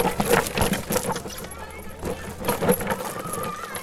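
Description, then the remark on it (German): Many children jumping on a suspension bridge: a steady jumble of clattering thumps and metallic rattles with no clear rhythm, mixed with children's voices throughout. “So klingt es, wenn viele Kinder drauf rumhopfen.”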